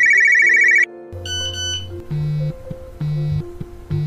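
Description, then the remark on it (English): A Nokia flip phone ringtone plays a bright, beeping electronic melody, with short repeated notes in a bouncy rhythm that loop without any talking. “Mark Anthony K was raised by a single mom with a little help from a Nokia flip phone.”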